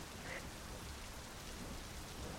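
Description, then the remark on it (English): Heavy rain pours down from dark clouds in a steady, dense hiss, constant with no breaks or voices. “Rain upon rain upon rain.”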